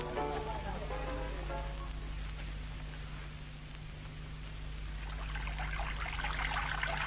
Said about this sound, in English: should do something about his hot water system. It's stone cold. You have to let it run.